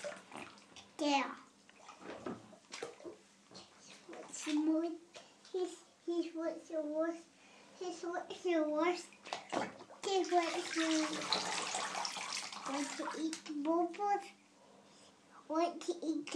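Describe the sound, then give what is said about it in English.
Water splashes and sloshes in a bubble bath as a young boy is being washed, while a young child babbles and talks, with a brief burst of heavier pouring or splashing midway through. “Is he getting washed now?”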